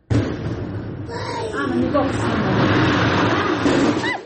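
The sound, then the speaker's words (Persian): A heavy blast at the Hamshaft stone quarry by Takob village, Varzob, Tajikistan, carried out by the stone-digging company 39 Parallel, erupts at the start and rolls on as a loud, sustained rumbling roar for several seconds, with voices and a few high whistling tones over the noise. “این صدای ترکیش در کانی همشفت دهه تکابی نویه ورزوب است.”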